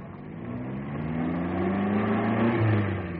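A car engine revs and climbs steadily in pitch, a continuous mechanical drone that grows slightly louder over a few seconds, with no voices present.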